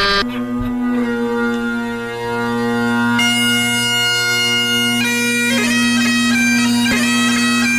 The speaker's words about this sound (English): Sorry, that was my phone. Continue with the funeral.